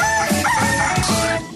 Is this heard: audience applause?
no